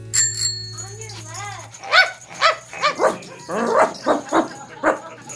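A dog named Black Francis barks loud and insistent, firing off roughly ten sharp barks in quick, uneven bursts, with a brief ringing tone at the very start.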